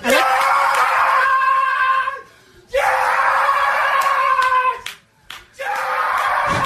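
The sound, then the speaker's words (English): A man's voice lets out three loud, drawn-out celebratory yells, each roughly two seconds long with brief pauses between, imitating a baseball pitcher's triumphant shout after getting out of a bases-loaded jam. “All right, he didn't yell quite that loud.”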